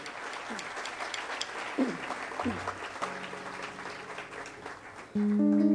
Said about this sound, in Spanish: Para quien pida un fuerte aplauso.